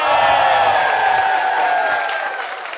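A crowd bursts into sustained applause with cheering mixed in, a dense wash of clapping that holds steady and loud before easing slightly toward the end. No one speaks.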